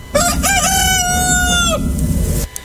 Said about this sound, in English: this next song I think requires a little rooster crowing in the beginning